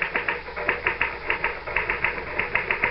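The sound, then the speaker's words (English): Rapid typewriter typing, a steady run of sharp mechanical key strikes in an even rhythm, clear with no voices, briefly pausing before the clacking resumes. “Well, the truth is that the typewriter, or rather, Mr. Gann, does all the brain work.”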